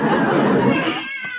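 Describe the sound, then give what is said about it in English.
A cat sitting on a fence meows in one long, loud, drawn-out yowl that trails off near the end, heard on its own with no talking. “Seems I can still hear that darn cat.”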